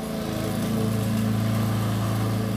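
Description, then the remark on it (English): A household lawnmower engine runs steadily and loudly, a droning buzz with a strong low hum that holds a constant pitch of A throughout, with no talking. “This is the family lawnmower.”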